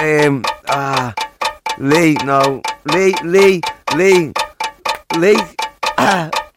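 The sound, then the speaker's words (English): A voice imitates a ticking countdown clock, timing a contestant who is trying to guess who someone is, producing a steady run of short, pitched, rhythmic syllables, loud, with brief gaps between beats. “Right, I've got to put you on the clock.”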